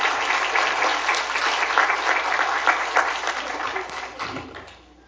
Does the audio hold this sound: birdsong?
no